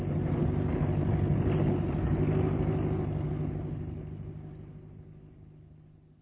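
A car engine idles with a steady low rumble, fairly loud, then gradually fades away over the last few seconds as it slows and stops, as the car is parked at a lodge. No one speaks.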